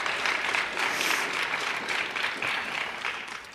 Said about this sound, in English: So our honorable mention winner for the sixth grade is Lazarus Erickson from Northwest Middle School, and I don't think Lazarus was able to join us today. I think that is correct, but we can still give Lazarus a round of applause.